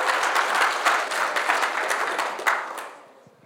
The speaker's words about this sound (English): Once you've spoken, you can sit down. My apologies. Sorry to make you stand there awkwardly and be clapped for. I know that's tough.